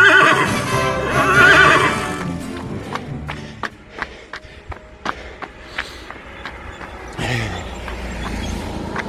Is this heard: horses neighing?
yes